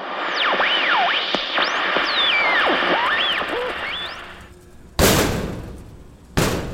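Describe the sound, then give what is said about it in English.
Wavering, whistle-like tones glide over a noisy backdrop, then fall away before two loud, heavy bangs on a closet door, spaced about a second and a half apart. “stop banging on the closet door for a second.”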